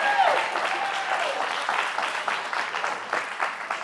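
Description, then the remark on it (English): A crowd applauds warmly, many hands clapping in a dense, steady patter that stays fairly loud and even for several seconds before easing slightly toward the end. “Now give Polly a great round of applause.”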